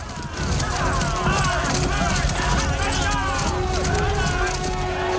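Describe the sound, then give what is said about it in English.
Loud, continuous galloping of several horses as a king and his mounted knights charge into a wood, hooves pounding together in a busy rush, with whinnies and neighs rising over a tumult of shouting voices. “The king and his horsemen charge into the wood.”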